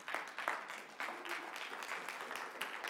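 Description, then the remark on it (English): A crowd applauds steadily, a dense wash of many hands clapping at once with scattered sharper claps standing out, moderately loud and continuous with no voices over it. “Don't clap yet, because about what I'm about to say.”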